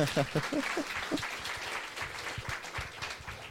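An audience breaks into steady applause, many hands clapping in a dense, sustained patter, with a brief voice audible at the start before the clapping fills the room.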